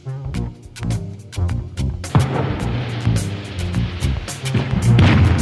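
Rolling thunder rumbles and crackles over a song's closing bars, a broad noisy roar swelling in after a couple of seconds beneath sustained chords and sharp percussive hits, growing louder toward the end.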